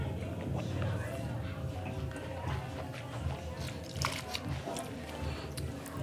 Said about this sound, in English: All right, let's give it a sip. It's got a little of that lactic-y thing that you get from malolactic. Let's throw it over the tongue.